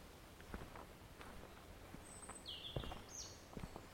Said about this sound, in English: A bit of bird song going on.